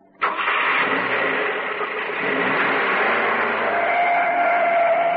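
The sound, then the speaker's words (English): A taxi cab's engine starts abruptly and settles straight into a loud, steady rumble, with a higher whine creeping in toward the end. No voices are heard. “I meant in your cab, stupid.”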